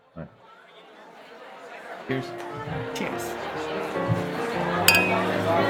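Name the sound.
glasses clinking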